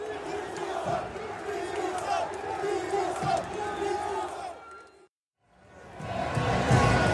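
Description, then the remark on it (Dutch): A stadium crowd of Guinea football supporters roars and cheers in a dense, sustained wash of voices after Equatorial Guinea gets a red card, breaks off abruptly into a second of silence, then swells back up loudly. “En dat vindt uiteraard de sport van Guinea wel het juichen waard.”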